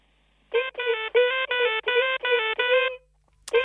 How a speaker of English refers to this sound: Oh, hang on. Sorry. Sorry. I forgot to turn my phone off when I was playing with my new ringtone.